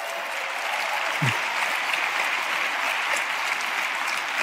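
Steady applause from a crowd fills the whole stretch, a dense, even wash of many hands clapping at once with no pauses and no voices breaking through.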